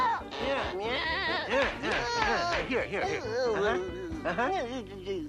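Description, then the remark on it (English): A person's voice imitates a cat meowing over and over, producing a string of wavering, bleat-like cries that rise and fall in pitch, fairly loud. “Sure, I'll teach you to meow.”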